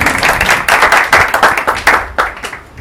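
A large audience at a Christian church service bursts into loud, sustained applause for Jesus Christ, a dense wash of many hands clapping together, with a few sharper individual claps standing out before it begins to thin toward the end.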